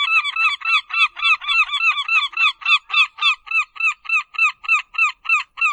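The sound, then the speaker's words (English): A seagull screams over and over in a fast, steady series of harsh, nasal cries, loud, with no voices or other sounds around it, floating on a cool breeze above the sea. “Dunya lifted her gaze from the sea and watched a seagull float on the cool breeze.”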